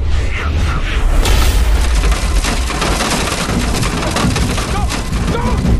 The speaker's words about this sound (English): Outside, a massive jagged asteroid clips the top of the ship.